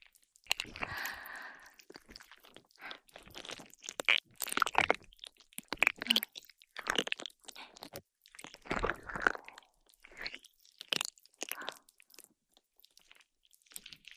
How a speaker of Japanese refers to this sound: 音はこれぐらいでいいかな。じゃあ泡同様にこのスライムを君のお耳にくっつけてマッサージするわよ。